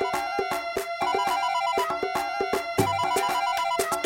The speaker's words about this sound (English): Oh, my other phone's ringing.